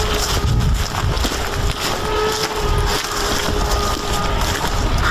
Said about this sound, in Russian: Пока шли, уже слышали, как пролетели 2 дрона. Что это за дроны, чьи дроны, непонятно. Но местные жители предупреждают, чтобы были очень осторожными по этому поводу. Опять слышно, как гудит дрон.